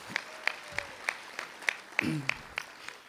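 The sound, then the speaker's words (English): Steady, rhythmic clapping from an audience for the speakers, about ten evenly spaced claps at a moderate volume, with a brief low voice murmuring underneath partway through. “So one more round of applause for these guys.”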